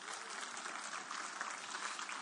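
An audience claps steadily, dense overlapping hand claps forming a continuous, even wash of applause with no pauses or speech on top.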